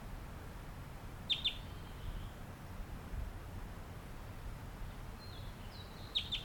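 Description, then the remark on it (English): Two short bursts of high, thin chirps from a wild bird singing as it flies nearby, a quick double note early on and a brighter cluster near the end, set against a steady low rumbling background hiss. “That was just recorded, gave some songs and flew nearby.”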